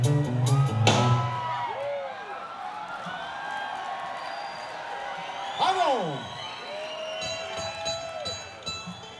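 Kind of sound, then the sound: crowd, audience applause and cheering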